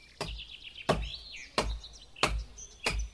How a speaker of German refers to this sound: Oh, hier wird ein Baum umgehackt.